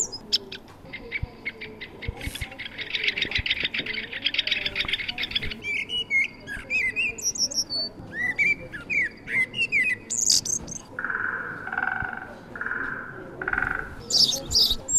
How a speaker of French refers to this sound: voici quelques chants d'oiseaux que vous pourrez entendre à la Maison des Barthes à la plaine d'Anseau.